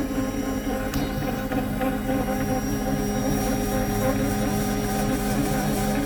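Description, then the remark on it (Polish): A bread machine runs steadily on speed 5 while kneading a very sticky bread dough, giving off a constant motor hum with a soft hiss layered over it. The sound stays even, with no voices. “Słyszycie taki syk? To znaczy, że ciasto się wyrabia prawidłowo.”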